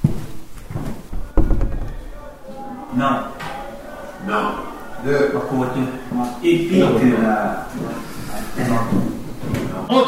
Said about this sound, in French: Alors on va franchir la porte qui a écrit pousser, on va pousser et voir un peu ce qui se cache derrière.